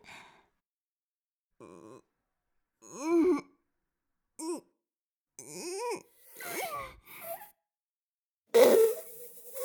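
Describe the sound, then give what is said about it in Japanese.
A short series of fart sounds from a maid, some drawn-out and tonal, others brief, separated by pauses and ending with a louder, rougher blast. “いいですわ、まずはおならから。メイドが屁をこきますね。”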